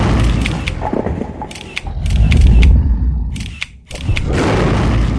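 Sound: camera shutter clicking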